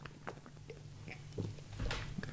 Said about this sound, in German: Das war geil, wie du das gerade getrunken hast. Das hörte sich gut an. Das hört sich an, da kriegt man direkt Durst.